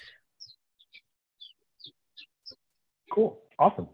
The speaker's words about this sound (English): Is that birds chirping in the background? Yes, I have little birdies back here.